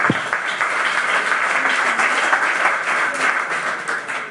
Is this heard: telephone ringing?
no